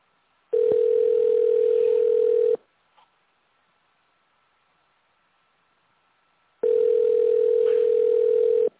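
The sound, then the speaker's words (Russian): A telephone ringback tone sounds twice while calling the research and production association Gidrotekhproekt. Each tone is a steady mid-pitched hum lasting about two seconds, separated by roughly four seconds of silence broken only by a faint click. No one speaks. “Вы позвонили в научно-производственное объединение «Гидротехпроект». Дождитесь ответа.”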